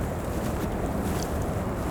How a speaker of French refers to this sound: les méandres d'un ruisseau qui s'écoule en douceur sur ce plateau. L'eau est claire, transparente, pure.